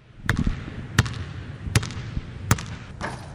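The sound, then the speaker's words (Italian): A basketball bounces four times in a steady rhythm on a hard floor, each thump sharp, with a faint fifth bounce trailing off at the end. “Questa puntata inizia con una palla da basket.”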